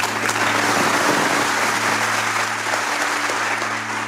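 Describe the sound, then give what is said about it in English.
A crowd claps loudly and steadily after Ruth Ginsburg finishes swearing the oath to support and defend the Constitution of the United States, a dense sustained wash of applause with no letup, accompanied by a low constant hum underneath. “The crowd erupts in applause, and blinking back tears, Ruth steps in front of the stage's lectern and begins her prepared address.”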